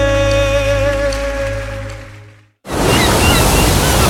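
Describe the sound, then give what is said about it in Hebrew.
A sustained musical tone fades out, then after a short gap a loud, steady roar of sea waves washing onto a beach takes over, continuous with no voices. “חיים, נו, בוא ניכנס לים”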